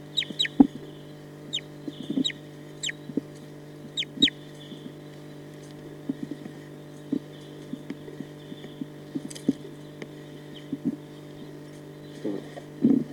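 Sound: bird clucking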